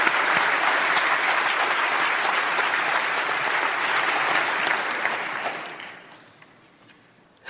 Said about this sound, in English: So, Lionel, for the motion, please do take to the podium. And a round of applause.